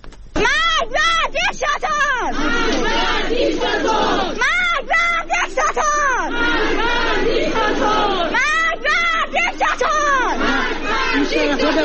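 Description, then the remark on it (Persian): A large street protest crowd chants loudly in unison, with shouted slogans rising and falling in repeated bursts over a constant roar of many voices, at Saturday protests in Iran, in areas of Tehran including the capital's bazaar, and in Mashhad. “اعتراضات و تظاهرات روز و شامگاه شنبه در مناطقی از تهران از جمله بازار پایتخت و همچنین در مشهد، کرمدره، کرج، جوانروز، سنندج، سمیرون و اصفهان ادامه یافت.”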